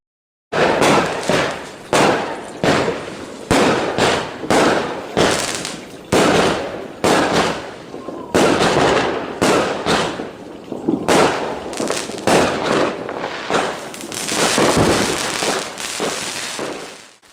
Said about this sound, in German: Ganz ruhig, Bube. Das Jahr ist vorbei. Da knallt es immer so viel. Aber uns passiert nichts.